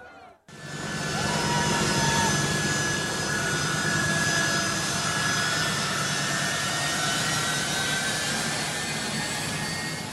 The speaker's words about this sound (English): With thousands desperate to flee for their lives, Kabul's airport is in a state of chaos. And these are pictures of desperate Afghans attempting to clamber onto a U.S. military plane as it leaves the capital.